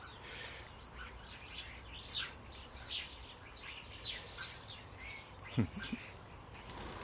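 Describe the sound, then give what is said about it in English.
A flock of about 20 small birds perched on top of a fence calls in a busy, overlapping chorus of high, sharp chirps and tweets, steady throughout with a few louder bursts standing out over a low background hum. “Now there's going to be trouble because there's about 20 come down on top of the fence.”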